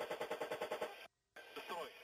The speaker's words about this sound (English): They're shooting down these fairly slow-moving Shahed drones